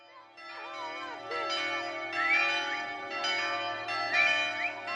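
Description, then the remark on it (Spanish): The bells of the church in Puerto Pinasco, a small town of 1,000 people on the Paraguay River in Paraguay, ring in a steady peal calling the town to International Day of Friendship celebrations, struck roughly once a second, tones overlapping and humming between strikes, fairly loud, with no voices heard. “Las campanas de la iglesia de Puerto Pinasco, una pequeña población de 1.000 habitantes sobre el río Paraguay, a más de 400 kilómetros de la capital, convocan al pueblo para asistir a las celebraciones por el Día Internacional de la Amistad.”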